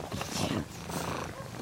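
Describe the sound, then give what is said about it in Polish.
A cat purrs steadily, a soft continuous rumble that swells and eases with its breathing, fairly quiet, with no other sounds around it. “A tak mruczy, no.”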